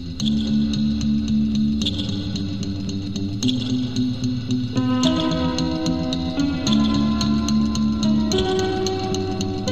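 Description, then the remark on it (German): Music drenched in heavy reverb and echo: sustained, smeared chords shift every couple of seconds, their tails washing into one another, with no voices present. “Hall und Echo sind hier aus denselben Gründen wichtig wie bei den anderen Beispielen”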